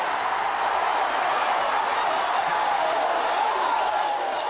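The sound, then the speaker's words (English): A huge football stadium crowd at the Big House roars after a touchdown catch, an explosion of noise that is neither cheering nor booing, a dense, steady wall of shouting that stays loud and undiminished throughout, with no single voice standing out. “Instead of stunned silence, there's just like an explosion of noise.”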